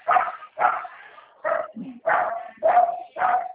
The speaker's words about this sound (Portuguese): Só repete pra mim, por favor, que tem um cachorro que tá latindo aqui, tanto que...